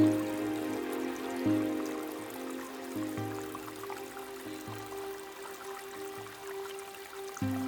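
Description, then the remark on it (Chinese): A steady, gentle stream of flowing water among spring peach blossoms trickles continuously throughout, even in level, layered over a soft sustained musical drone with shifting low notes; no one speaks. “就让自己在这桃花流水的明媚春光中舒服地休息放松一会儿。”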